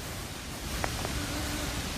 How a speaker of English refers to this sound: it turns out a quiet cry can be heard on my recording. And last hour, we discussed precursor clicks, little noises, squelches that can be heard right before an EVP. We've got some on this one, so listen for those, and then the sound.